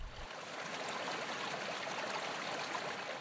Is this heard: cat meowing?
no